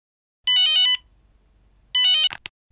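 A telephone ringtone sounds twice, each burst a quick warbling melodic trill of bright electronic tones, separated by a pause, with a short click or handling noise at the end.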